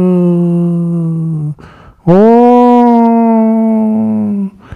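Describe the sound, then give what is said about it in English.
Two long, steady howls follow one another with a short gap between them, heard in the distance in the foothills of the Himalayas after sunset. Each is a sustained mournful tone that holds its pitch, loud, with no talking. “And in the distance he could hear the howls.”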